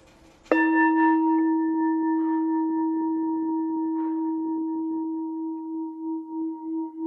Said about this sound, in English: It's an excellent sound. When we hear the bell, we practice listening to the bell deeply. We go back to our breath.